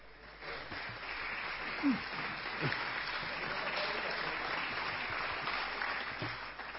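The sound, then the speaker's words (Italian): A room full of people at a municipal council session applauds steadily for several seconds, a dense wash of clapping at moderate volume with a few faint low voices or thumps mixed in. “Io no, invece, non lo faccio l'applauso, e per me non è meritato, e spiego perché.”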